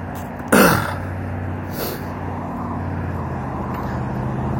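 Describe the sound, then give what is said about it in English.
Steady street traffic of cars, with people passing, rumbles with a constant low engine drone, broken by a sudden loud whoosh early on and a fainter one a moment later. “Cars and people.”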